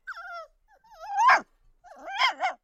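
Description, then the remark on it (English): A little brown dog whimpers in three or four thin, high-pitched whines that rise and fall, the last ones louder and more urgent, with no voices present. “he had a wife and a child and a little brown dog, and he was sorry to leave them, and they were sorry to have him go.”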